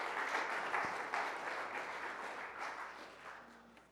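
A crowd applauds steadily, a dense wash of many hands clapping at once that holds fairly loud before gradually thinning and fading toward the end.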